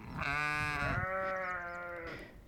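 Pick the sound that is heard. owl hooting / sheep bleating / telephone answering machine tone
sheep bleating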